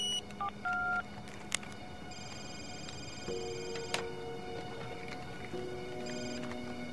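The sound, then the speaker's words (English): A series of short electronic keypad beeps from a cell phone being dialed by someone perched in a tree outside a large house at night, quick button tones at an uneven pace, followed by sustained dial and ringing tones over a faint background hum. “Eugene's perched in a tree watching her. He takes out his cell phone.”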